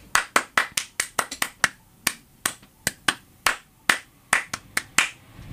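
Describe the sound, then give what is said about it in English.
Several hands clap in a loose, uneven rhythm, about twenty sharp claps over a few seconds with short gaps between them and no voices. “Those were many claps.”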